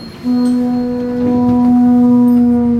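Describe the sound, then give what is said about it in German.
A conch shell horn, blown by a musician as part of the Movements 1 project, sounds one loud, sustained low blast that begins abruptly and holds steady to the end, a rich brassy drone with a trumpeting, elephant-like quality. “Später sagt mir der Beat Gysin, der Elefant sei ein Musiker, der in ein Muschelhorn geblasen habe.”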